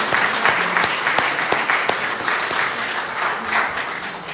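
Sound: audience clapping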